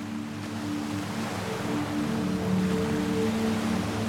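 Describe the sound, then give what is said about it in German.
Ocean waves wash steadily onto a sandy beach, a continuous broad rushing hiss at moderate volume with a faint low humming tone underneath, no voices present. “Die Wellen des Meeres tragen immer mehr die Spuren des Tages am Strand davon.”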